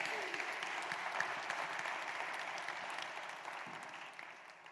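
A crowd claps steadily in a dense, continuous patter of many hands, holding at a fairly even level before easing slightly toward the end; no one speaks over it.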